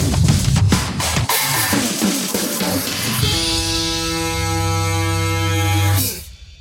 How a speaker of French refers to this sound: Et un jingle super fun pour une émission, un podcast de tech. Un jingle super fun.